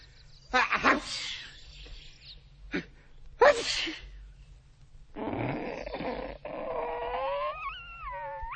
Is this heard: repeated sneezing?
yes